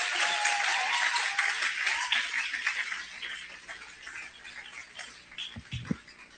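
A crowd applauds in a dense, steady wash of clapping that slowly thins and fades out, with a few low thumps near the end.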